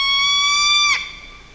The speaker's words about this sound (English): And there's the hoots. So that scream is part of the repertoire of the barred owl. Not many people get to hear it, but if you do, it's not Bigfoot. It's not someone getting attacked. That's just one of the different call notes of the barred owl